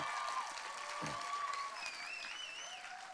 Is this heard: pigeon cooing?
no